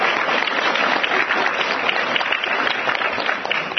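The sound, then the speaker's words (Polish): Sustained applause from a sizeable audience, a dense, steady wash of clapping hands that stays loud and even throughout, with no individual voices standing out. “Wielkie brawo”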